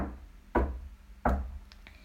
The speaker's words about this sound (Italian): Per primo ad avvicinarsi si avvicina l'orsetto Tommaso, che bussa timidamente alla porta di Babbo Natale.